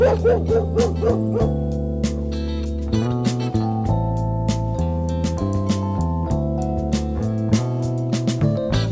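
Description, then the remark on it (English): A dog barks several times in quick succession at the start, over a steady, upbeat musical backing with sustained chords and light percussion that carries on to the end. “It's the sound of a dog barking.”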